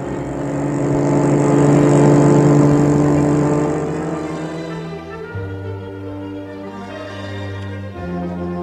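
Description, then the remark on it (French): A car engine revs loudly and pulls away, its droning hum swelling in the first few seconds, then shifting down in pitch as it settles into a steady run, with no one speaking. “À Saint-Denis, après leur travail, ils suivent un Templier et le poussent dans leur voiture.”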